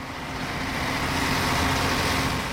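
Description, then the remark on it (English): A steady, even rumble of a bus rolling along a cleared, isolated rural road past snow-laden fir trees on a misty early morning, heard from inside, with a constant engine hum and road noise and no voices. “The radio works inside the bus, about 10 FM radio stations on the dial.”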